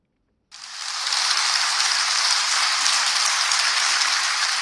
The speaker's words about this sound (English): Hundreds of children from schools in Yaoundé glued to their TV screens applauded Wednesday as Davina Maloum was given the International Children's Peace Prize for 2019 in The Hague on the occasion of Universal Children's Day.